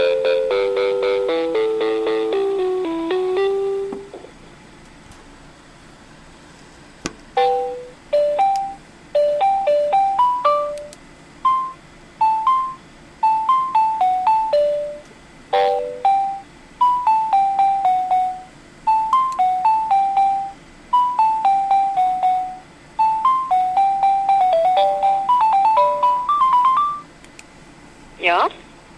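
A phone line ringing on an outgoing call to the Kokoomus parliamentary group: repeated groups of short, clear electronic beeps in a bouncing melodic pattern, steady and fairly loud, following a brief musical flourish at the start.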